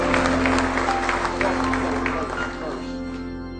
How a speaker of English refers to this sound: Give him another big hand clap of praise if you love him tonight.